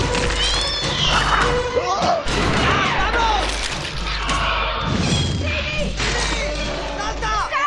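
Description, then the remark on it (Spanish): Loud, continuous chaos of crashing impacts and explosive booms as a meteorite shower falls on a jungle, with a deep rumble underneath, while panicked animal cries and screeches rise and fall as animals flee inland. “La lluvia de meteoritos es cada vez más intensa y cercana. Los animales huyen tierra adentro. Los meteoritos caen sobre la selva.”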